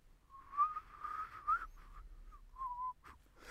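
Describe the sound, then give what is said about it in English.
A breathy, wavering mouth-made whistle, like a plastic bag fluttering in a breeze, comes in uneven bursts at a steady mid pitch with short gaps, fairly quiet and with no talking. “Yeah, it sounds like a sort of plastic bag being blown about in a breeze.”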